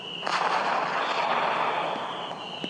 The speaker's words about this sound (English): And there you go. There you go with the sparkling fireworks. And once again, I believe this is only for iPads.